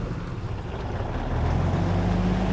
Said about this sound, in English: A huge truck rolls by, heading to the cattle chute to unload,